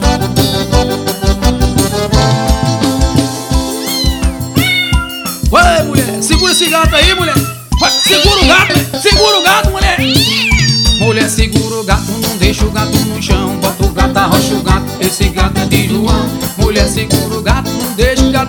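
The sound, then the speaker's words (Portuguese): Several drawn-out cat meows rise and fall over loud, busy band music with steady rhythm, the yowling cries clustering near the middle and blending into the instruments. “Menina, pega o gato, não deixa o gato no chão.”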